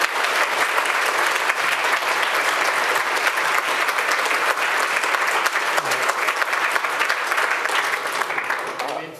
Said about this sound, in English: Okay, excellent. All right. Huge applause.